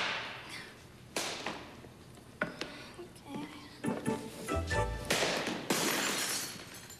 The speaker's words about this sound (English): Okay, I can do this. Slap shot.